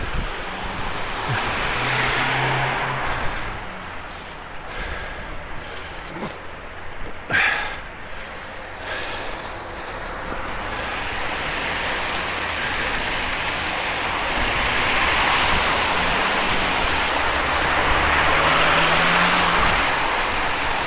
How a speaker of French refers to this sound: Et la pluie n'arrête pas. Je pense que quand je vais attacher le vélo, la pluie va s'arrêter.